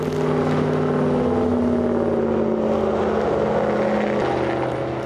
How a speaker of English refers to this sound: Traffic roars overhead as Ward climbs under State Road 80.